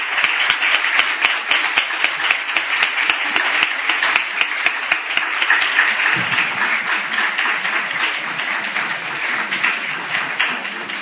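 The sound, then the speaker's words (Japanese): Sustained applause from an audience for a lecturer as he leaves at the close of a lecture: dense, steady clapping of many hands throughout the full eleven seconds at an even loudness, with no voices over it. “今一度先生に大きな拍手をお願いいたします。”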